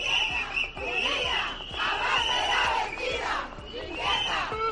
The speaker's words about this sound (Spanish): Entre pitidos y cánticos.